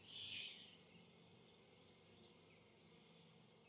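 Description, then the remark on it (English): A low, steady hum of honeybees around a hive, fairly quiet, with a brighter buzzy burst at the start and a softer one near the end; no one speaks. The bees are disoriented and looking for a way back into the hive. “No, these are just the bees that are looking to find a way back in.”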